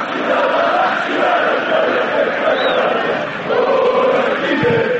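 A dense football crowd chants in unison from the stands in Kruševac, a loud, sustained roar of many voices with rising and falling sung tones and no individual speech standing out.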